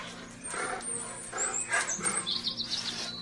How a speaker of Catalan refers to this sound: Hi ha un inici d'aquesta cançó que és ambiental, que no sé si t'ha gravat aquí mateix, sí. Que ja se sent com un gos o uns gossos, sí. Hi ha uns ocells, no?